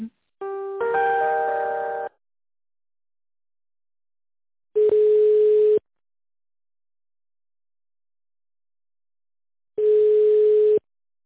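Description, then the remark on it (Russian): Telephone line tones from a business call to be put through to an employee that isn't getting through because her line is busy: a brief stepped electronic melody, then two long, steady, mid-pitched beeps about five seconds apart, loud and alone with no voices. “Алло, не пошел звоночек, значит, она на линии.”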